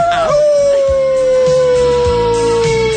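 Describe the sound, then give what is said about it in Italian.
A single long, wolf-like howl, most likely a human voice imitating a wolf on request during a Radio Bruno broadcast, holds steady and slowly slides downward in pitch, loud, over faint background music. “mi fai il lupo che ulula qui e ulula là.”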